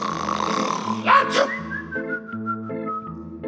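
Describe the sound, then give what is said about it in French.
A low, droning bellow blends with a thin whistling tone, broken midway by a sharp, sneeze-like burst of breath, then trails off in warbling, whistled notes. “Eh bien, le bourniflement, c'est quelque chose qui tient du beuglement et du sifflement, avec au bout milieu une espèce d'éternuement.”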